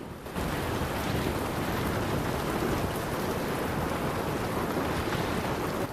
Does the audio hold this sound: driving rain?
yes